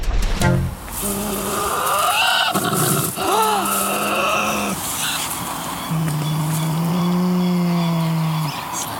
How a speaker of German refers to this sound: Jetzt kriegt ihr alle mal einen echten Beutelteufel zu hören, so wie ich ihn in Tasmanien habe schreien hören.